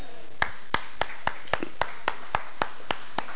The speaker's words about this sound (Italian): Prego, non è stato molto caloroso l'applauso.